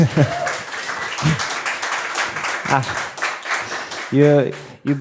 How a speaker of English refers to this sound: you beat me to it, because I was going to ask all of you to give yourself a good round of applause, because we've all done incredible work in all of our respective fields. So big round of applause to everyone in the room.